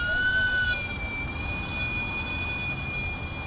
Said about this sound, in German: Das durchdringende Pfeifen, wenn der Verkäufer den heißen Dampf aus seinem Wägelchen entweichen lässt, ist ein akustisches Werbesignal für Camotes. Butterweiche Süßkartoffeln, ein billiger und nahrhafter Snack.